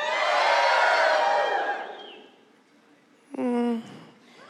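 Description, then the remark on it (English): An audience shouts together at the preacher's request in one loud, sustained burst of mixed voices that swells for about two seconds and then fades out. After a short pause, a single voice briefly calls out. “Can you give me a shout? Come on, the people shouted.”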